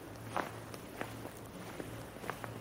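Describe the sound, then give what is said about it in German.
Footsteps crunching through fresh snow in Hamburg while it is snowing, a steady series of soft, gritty crunches at a walking pace, with a low steady hum underneath and no voices. “Hört ihr das Knistern?”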